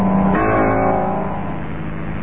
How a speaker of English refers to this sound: Suddenly I heard a car coming up the drive.